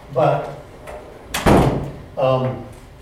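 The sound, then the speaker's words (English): A door swings shut with a single solid thud near the middle, fairly loud, with indistinct voices murmuring before and after it. “This door needs to be closed because there's noise coming out.”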